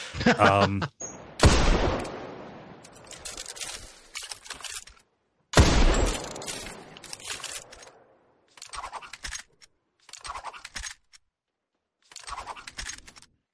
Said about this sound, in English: but in particular, the twirling draw animation and the whistle it makes as you do so are absolutely chef kiss.